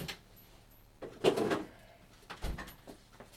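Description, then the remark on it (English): A fridge door swings open with a rattling rush as milk is put back in, then thuds shut about a second later; moderately loud handling sounds with no talking. “Put it back in the fridge.”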